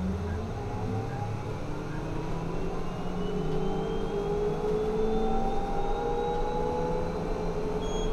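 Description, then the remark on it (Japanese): A bus pulls away from a stop and drives on toward Shibuya-cho 1-chome, its engine droning steadily as the pitch climbs with acceleration, heard from inside the vehicle over a constant rumble. “発車します。ご注意願います。”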